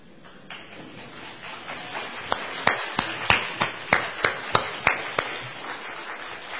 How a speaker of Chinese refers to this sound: 在我们开始之前，我请所有的父亲站起来，我们替你鼓掌。